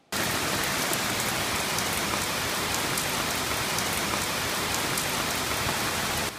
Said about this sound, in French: Quand j'échappe aux révisions du master, mes journées sont souvent baignées de chaleur, de soleil et du son reposant de la plage qui n'est jamais très loin à Sydney. Sauf quand il pleut. Et ici, il ne pleut pas qu'à moitié.